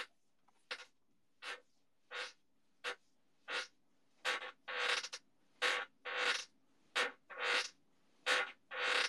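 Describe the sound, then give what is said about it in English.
A chair creaks again and again, about a dozen sharp, scratchy creaks at an uneven pace, fairly loud, with no talking. “Is that creaking sound your chair?”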